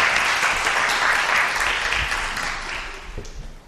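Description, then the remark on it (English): An audience claps for actors after a short Bible-story performance, a dense crackling wash of hands that stays loud for a few seconds, then gradually thins and fades toward the end. “Can we have a round of applause for our excellent actors here?”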